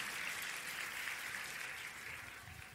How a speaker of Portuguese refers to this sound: Eu vou pedir enquanto isso uma salva de palmas para os nossos voluntários. Olha o que eles fazem, gente. É um esforço tremendo.